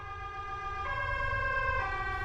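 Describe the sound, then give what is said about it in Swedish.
An ambulance siren wails steadily and loud, its tone shifting pitch every second or so, over a low rumble of road traffic. “Sen så ligger jag där och får en hjärt- och lungräddning i 16 minuter innan en ambulans kommer.”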